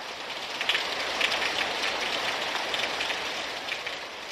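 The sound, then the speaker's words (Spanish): A steady, dense roar of heavy rain pours down without pause, a thick wash of hiss with faint pattering flecks throughout. No voices are heard. “Llovía torrencialmente.”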